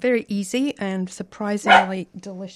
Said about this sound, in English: Excuse me, that's my dog.